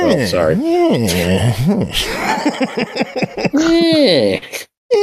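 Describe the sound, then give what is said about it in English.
People mimic cats with their voices: loud, drawn-out meows that rise and fall in pitch, separated by a stretch of quicker, chattering vocal noises. “We're making cat noises, I guess, to celebrate the fact that Pickle's doing better.”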